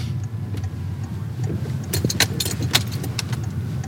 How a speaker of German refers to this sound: Willem nimmt mich mit im Auto. Wir fahren die Hauptstraße entlang.